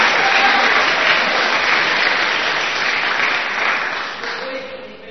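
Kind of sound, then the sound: crowd, audience applause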